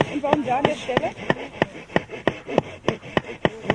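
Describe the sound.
Steady, rhythmic sawing through tree branches, about three quick rasping strokes per second, with a voice talking over the first second or so.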